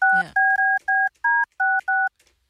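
A telephone number being keyed in: seven clear, evenly spaced DTMF dual-tone beeps, loud, preceded by a brief click or rustle at the start.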